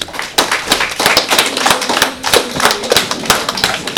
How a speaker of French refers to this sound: On peut les applaudir.